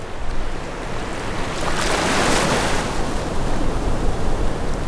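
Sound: ocean waves and wind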